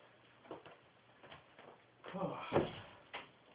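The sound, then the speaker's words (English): A door is pushed shut, with a few soft handling knocks leading up to a louder muffled thump near the end, then a lighter tap; faint murmuring voices sit underneath. “Okay, I'm gonna shut that door.”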